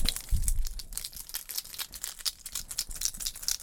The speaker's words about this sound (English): Keys. Look.